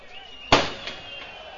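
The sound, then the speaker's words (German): A single sharp firecracker bang cracks out from a fan block over a football stadium crowd during a match, loud and sudden, followed by a brief echoing tail and lingering crowd ambience. “Ja, und der nächste Böller, der da hochgeht.”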